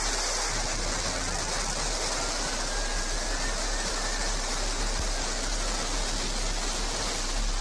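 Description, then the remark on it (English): The New Shepard rocket's engine ignition and liftoff roar as it clears the tower: a dense, steady, hissing rumble spanning low to high pitches, holding at constant loudness throughout with no voices. “6, 5, 4, command engine start, 2, 1, ignition.”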